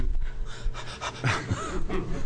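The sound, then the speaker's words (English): Heavy, out-of-breath panting during a legislative committee work session: a quick run of ragged, breathy inhales and exhales with no words, steady and fairly loud for a couple of seconds, after running down two flights of stairs. “I just ran down two flights of stairs”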